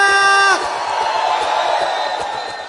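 A group of young men lets out a loud, sustained whooping shout that breaks into rowdy cheering and yelling, a dense crowd roar filling the rest of the moment.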